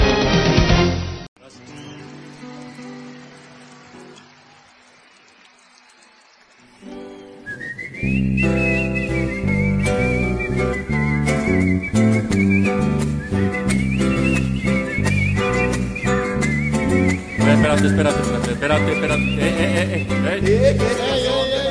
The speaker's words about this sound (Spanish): Espérate. No es así, hombre. No la chiflen, que es cantada.